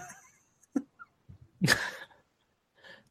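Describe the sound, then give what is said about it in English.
A sick person coughs on the microphone: a few short throat clicks and catches, then one loud, harsh cough burst, followed by a faint breathy sound. No speech. “welcome back to another edition of the Coughing on the Microphone … episode”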